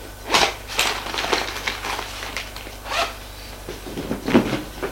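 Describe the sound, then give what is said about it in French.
A zipper is pulled open in a few quick rasping strokes, followed by rustling and soft crinkling as a woman unpacks her belongings onto a bed, with no one speaking. “La voilà qui déballe ses affaires.”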